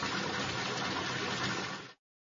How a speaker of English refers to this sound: It's raining hard. You're running in the rain.